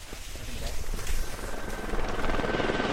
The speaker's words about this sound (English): The town came out in force, hiking up the icy Lower Dewey Trail or catching a ride on a chopper provided by Temsco helicopters to family or friendship bubbles of five or less.